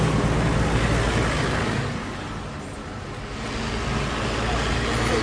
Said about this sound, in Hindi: रात के अंधेरे में बस सड़क पर जा रही है। आवाजें सुनते ही ड्राइवर ने बस सड़क के एक किनारे पर खड़ी कर दी। सब लोग नीचे झुककर सामने से जीप और एक बफर बम गाड़ी आई और जा रही है।